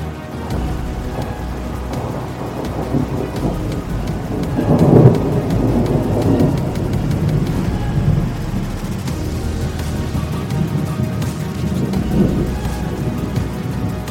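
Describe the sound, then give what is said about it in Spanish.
Heavy rain pours steadily while thunder rumbles, swelling into a louder roll around the middle and again near the end. No voices, just the dense, continuous storm. “Pero este tipo de tormenta no es solo posible, sino que ha ocurrido antes.”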